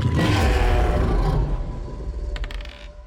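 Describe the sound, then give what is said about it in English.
A huge, rumbling monster roar bursts out loud, a deep guttural blast with a breathy rush of air that fades over about three seconds, ending in a few rattling clicks. “As this blast of air is just coming past you from this roar.”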